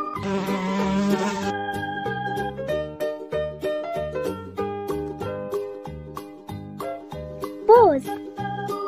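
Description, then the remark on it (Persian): A loud, steady bee-like buzz drones for about a second and a half at the start over a bouncy, upbeat children's tune, then fades out while the music carries on. “زنبور طلایی، همیشه گرم کاری، میری به روی گلها شیره گل میاری، عسل میسازی کم کم با اون صدای وزوز، وقتی که نیش میزنی جوش میشه سودی قرمز.”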